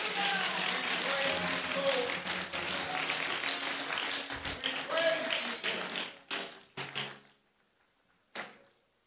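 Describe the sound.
A church audience claps hands to give thanks to God in a dense, steady burst for about six seconds with voices mixed underneath, then the clapping thins out into a few scattered, isolated claps.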